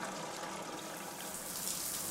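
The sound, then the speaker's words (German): Soft, steady trickling and rushing of water draining away from a swimming pool basin, a continuous quiet wash of sound with no voices. “Leise dringt das Geräusch des abfließenden Wassers vom Becken an meine Ohren.”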